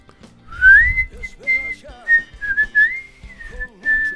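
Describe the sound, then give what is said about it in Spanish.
Someone whistles a short, flowing tune up close, the clear tone gliding between sustained notes for about four seconds, with soft low murmurs underneath. “Es una cosa como que no sabemos bien qué, pero nos lleva a cantar y a tararear una canción, y es muy lindo, es como silbar.”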